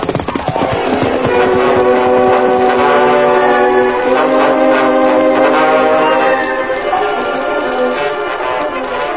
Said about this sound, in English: Sounds like the work train coming now, Lou. Yeah, that's it, all right.